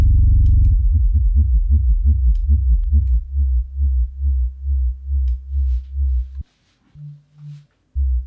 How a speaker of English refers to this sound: Okay, sine wave. Nothing special here, though we have frequency modulation in this oscillator.